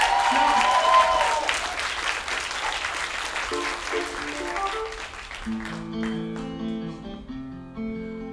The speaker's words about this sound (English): Give a round of applause for him, and give a round of applause